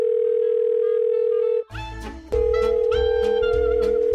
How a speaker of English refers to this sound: And I'm going to debut my brand new voicemail theme music.